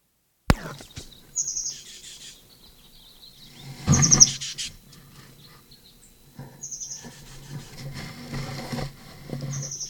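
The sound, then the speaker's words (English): A plain titmouse calls several times at the Moline Gate, below the transverse roadway, at 7:22, with short, high, slightly buzzy bursts spaced a few seconds apart, over soft rustling and scratching, with a sharp thump at the start and a louder scuffle midway. “Plain titmouse.”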